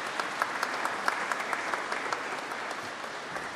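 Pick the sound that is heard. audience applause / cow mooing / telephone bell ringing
audience applause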